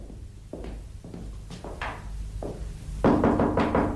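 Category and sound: household object, knocking on a door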